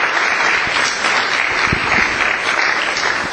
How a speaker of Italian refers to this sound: Grazie sindaco, anch'io saluto il presidente, l'assessore, il sovrintendente, saluto tutti voi, vi ringrazio dell'applauso.